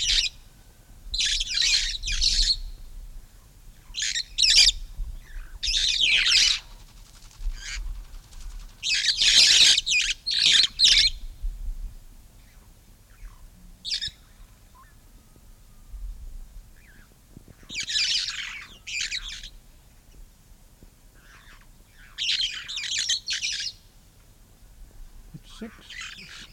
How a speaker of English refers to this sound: Molo, in the western Kenya highlands, at an altitude of 8,000 feet, 3 of February 1956. We're now recording the call notes of the Maasai red fronted parrot.